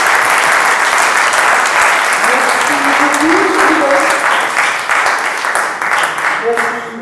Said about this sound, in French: Donc on applaudit à nouveau notre ami.